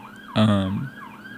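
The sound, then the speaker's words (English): An emergency vehicle siren wails outside, its rising and falling tone carrying steadily, with a short low voiced sound briefly cutting in over it. “Oh, siren. Uh-oh. Hope everyone's okay.”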